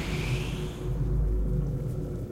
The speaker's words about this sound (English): Luke cautiously walks forward amongst hissing pipes and steam.